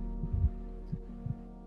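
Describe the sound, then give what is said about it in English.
An unborn baby's heartbeat, heard at a clinic as soft, muffled low thumps pulsing steadily over a constant electronic hum, as through a monitor. No one speaks. “So I go to a clinic, and the first time I'm at the clinic, I hear my child's heartbeat.”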